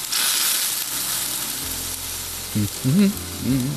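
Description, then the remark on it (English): Steady, bright sizzling of a chicken roasting on a spit, from a feature-length Netflix April Fool's video played backwards, from cooked to raw, continuous over a low background hum, with a few brief wavering tones near the end. “Apparently, for April Fool's today, the aforementioned video streaming company has put up what looks like a Netflix original movie, a feature-length video of a chicken roasting on a spit backwards, as in from cooked to raw.”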